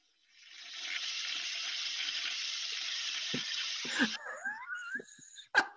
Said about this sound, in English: Was that supposed to be hands clapping? I think it was a toilet. That sounded like a toilet flush. I'm just hitting buttons. I couldn't tell what the hell that was.